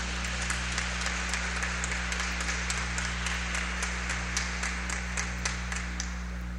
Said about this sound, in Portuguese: É claro que alguns aplaudiram, tem muita gente xingando nessas alturas do campeonato, mas eu não me importo não com essas coisas não.